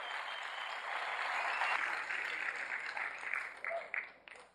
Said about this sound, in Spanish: ¿Quiénes vienen por primera vez a una convención? Yo quiero que les den un fuerte aplauso a la gente que está aquí por primera vez en una convención.